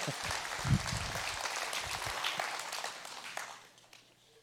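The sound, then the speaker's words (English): A crowd breaks into steady applause, a dense wash of many hands clapping that holds for several seconds before thinning out and fading toward the end. “You can clap if you want.”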